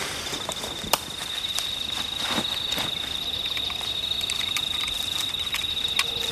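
A radio tracking receiver picks up the signal from a tracker fitted to an owl, giving off short, sharp beeping pulses over a constant background of hiss and a steady high whine. No one speaks.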